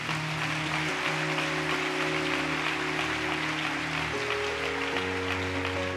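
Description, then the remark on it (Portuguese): An audience applauding loudly and steadily for Jesus for several seconds, a dense wash of clapping over sustained keyboard chords that shift a few times underneath. “Vamos aplaudir bem alto a Jesus.”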